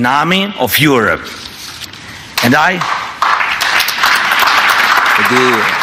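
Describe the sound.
An audience breaks into sustained applause, a dense wash of many hands clapping at steady volume, while a person speaks over the start and another voice briefly cuts in near the end.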